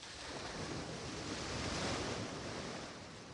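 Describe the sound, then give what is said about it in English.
Continuous roar of ocean surf washing onto the shore, a broad steady rush that swells slightly in the middle, with some wind noise and no voices. “The beautiful seasoned scent in the natural sound of the wave allows you to forget all your worries as you enjoy the sun, the breeze, the waves.”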